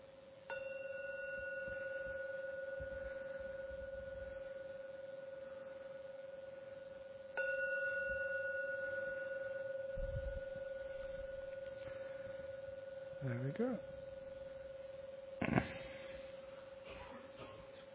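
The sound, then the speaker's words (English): A meditation gong is struck three times at slow, even intervals to end a meditation, each strike blooming into a steady, humming ring that sustains for seconds without fading much, with no talking over it. “So I'm now going to ring the gong 3 times.”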